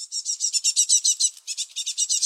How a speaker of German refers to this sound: Ja, wenn man mal wieder diesen Sound hört von kleinen Meisen im Nistkasten, dann gehen da vermutlich, wie du so schön sagst, ja, Proteinsäcke über die Theke.